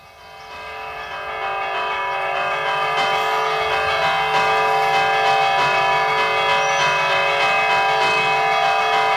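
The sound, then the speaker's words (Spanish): Church bells ring a steady repique peal, from a recording by the Joaquín Díaz foundation; their overlapping strikes blend into a dense, sustained metallic hum of bright ringing tones that stays loud throughout, with no voices. “Estos toques de campana forman parte de una grabación de la fundación del amigo Joaquín Díaz.”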